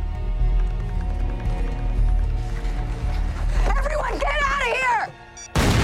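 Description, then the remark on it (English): A low, busy rumble of crowd noise with wavering, high cries builds, then drops off before a sudden loud explosion bursts across the whole range at the very end, knocking many people to the ground. “The explosion knocks many people, including Carrie, to the ground.”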